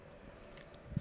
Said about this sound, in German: Wir sind gerade wieder beide am Kauen, deswegen kurze Pause. Kurz innegehen. Moment noch.